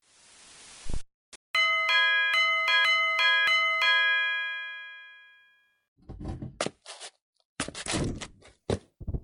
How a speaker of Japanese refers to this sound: 事件が起きたのは2015年3月15日17時24分。少年が自宅でくつろいでいたところに玄関のチャイムが鳴り響いた。